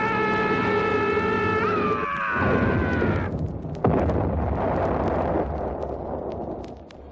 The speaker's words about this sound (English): Something's jamming the tail controls, forcing us down. We're going to crash!